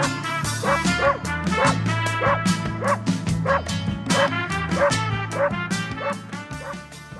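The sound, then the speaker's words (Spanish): A small dog, Fernando of Resistencia, barks and yips in quick, steady bursts, fairly loud, with a sustained low hum underneath throughout. “Fernando, el perrito que se ganó a todo Resistencia.”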